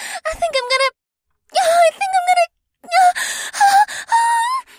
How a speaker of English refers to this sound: responded with a deep moan, so I continued to explore every inch of her sensually.